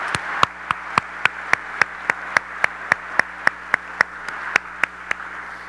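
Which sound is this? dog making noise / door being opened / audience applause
audience applause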